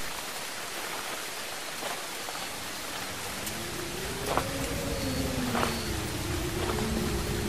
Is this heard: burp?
no